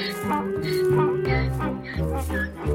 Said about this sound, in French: Alors, notre braiement de l'âne, donc cette douce mélopée qui va donc passer de vallon en vallon, donc la communication entre eux.